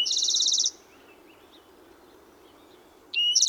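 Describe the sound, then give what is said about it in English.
A bird sings a loud, rapid buzzy trill of high repeated notes, pauses for a few seconds with only faint outdoor background, then starts another trill. “Some of our favorite places in early June are Heil Ranch and Hall Ranch, where you can hear spotted towhees and other brush-loving birds.”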